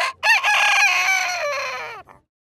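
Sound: rooster crowing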